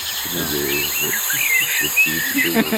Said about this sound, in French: Oh, une ambiance de nuit aussi. Elle est fort agréable, celle-là, avec des cigales.